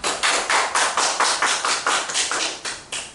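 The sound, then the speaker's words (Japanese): Steady, rhythmic hand clapping at a church gathering before a seminar, about a dozen sharp, bright claps at an even pace over a few seconds, moderately loud, with no voices. “じゃあ拍手を。”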